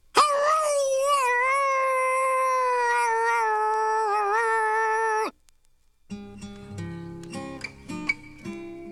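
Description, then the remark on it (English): A coyote's long, wavering howl rings out loud for about five seconds, then cuts off; after a short silence, a burst of music begins. “He was especially good at the sing-alongs at night when all the coyotes would go up on the ridge and howl at the moon.”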